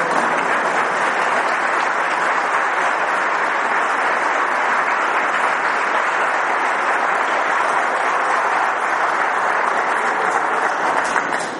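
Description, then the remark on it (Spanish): A large crowd applauds the nuns at a bishop's request, about twelve seconds of dense, steady clapping at constant loudness that only begins to fade at the very end, with no voices over it. “Falta el aplauso para las religiosas, pide el obispo.”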